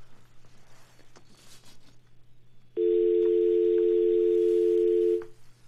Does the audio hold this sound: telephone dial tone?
yes